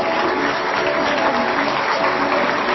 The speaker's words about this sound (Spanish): Muy bien. Ahora sí, fuerte aplauso para todos ellos.